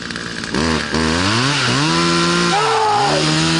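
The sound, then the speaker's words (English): A chainsaw engine revs loudly up and down several times, its pitch rising and falling in surging bursts, continuous with no talking over it. “I want her to chase her neighbors with a chainsaw.”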